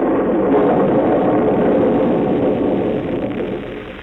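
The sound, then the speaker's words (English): Thunder rolls in a continuous, heavy low rumble for several seconds on a nasty, rainy day with howling wind, dense and steady before easing off slightly at the end, with no voices. “Then it began to thunder.”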